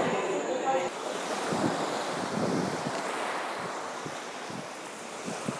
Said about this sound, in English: I shall return, hopefully, with some waves from the beach for you.